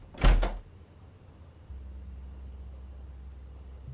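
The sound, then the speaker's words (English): A door shuts with a quick double knock of impact, followed by quiet and then a low, steady mechanical hum that continues to the end. “The door closes.”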